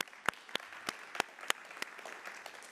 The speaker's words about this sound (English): yeah, let's clap for that.